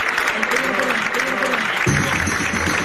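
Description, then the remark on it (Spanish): Steady, dense applause from a crowd, a continuous crackle of many hands clapping, with a murmur of voices underneath and a louder surge near the end, as Alfonso Rueda is welcomed at the Partido Popular headquarters on calle Génova, Madrid, after his absolute majority in Galicia. “Aplausos de hoy en la calle Génova”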